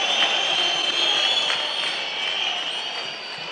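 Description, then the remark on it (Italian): Steady, dense applause from a large Bologna home crowd at a Serie A football match against Parma, as substituted Bologna players Orsolini and Rou leave the pitch in the 81st minute. A continuous wash of clapping with scattered sharper claps, holding at an even level before easing slightly toward the end. “81esimo, 2-1 per il Bologna, doppia sostituzione, fuori Orsolini, dentro Bernardeschi, fuori Rou e dentro Cambiaghi, quindi 5 cambi per il Bologna, 5 li ha effettuati anche il Parma, escono giustamente tra gli applausi del pubblico amico.”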